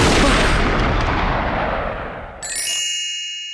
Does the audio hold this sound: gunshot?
yes